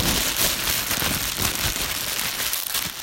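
A plastic bag is crinkled continuously to imitate a crackling oven fire, a dense, steady rustle of sharp little crackles lasting about three seconds, fairly loud and without any voices.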